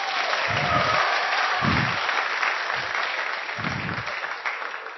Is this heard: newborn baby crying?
no